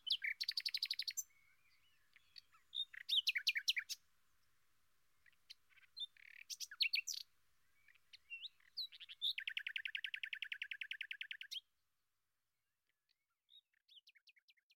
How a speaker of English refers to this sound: Here are those little birds again, singing songs about the teaching and learning experience at the Berlin School of Podcasting.